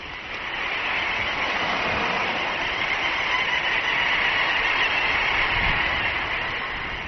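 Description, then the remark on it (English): A dense, unbroken chorus of little auk calls from a seabird colony of millions in the high Arctic, countless high chattering and trilling voices blending into a steady, loud roar of colony noise that holds constant throughout, with no speech. “Little auks arrive in their millions.”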